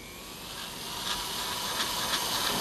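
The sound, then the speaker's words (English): A small handheld carving tool, used by hand for fine detail work carving out the shape of a Camaro, whirs steadily with a thin, hissy, high-pitched whine much like a dentist drill, rising slightly and pulsing in brief surges as it works, with no talking. “I use a small hand tool. It sounds kind of like a dentist drill.”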